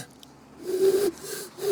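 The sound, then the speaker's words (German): Someone voices a breathy, low imitation of an eagle owl's hoot: one longer hoot followed by shorter ones, airy and a little unsteady. “Ach, ich kann ihn gar nicht so gut heute.”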